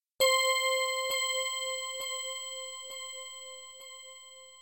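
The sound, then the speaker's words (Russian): Two glasses clink in a toast: a single sharp glass clink rings out into a long, bright, sustained tone that slowly fades, with soft regular ticks about once a second beneath it. No one speaks. “Улыбаясь, Дэниел поднял свой и чокнулся с Тайнтом.”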